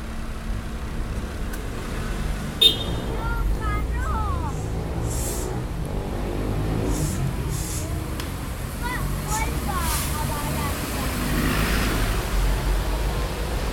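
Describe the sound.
Steady, fairly loud city street traffic at a red traffic light, with a continuous low engine rumble as vehicles idle and then pull away, measured at about 69 to 72 decibels, with some indistinct voices mixed into the city noise.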